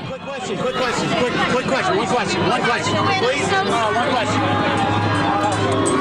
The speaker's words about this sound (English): I sound like I'm in a war zone because there's a helicopter flying over top. People are screaming around me. It was a big thing.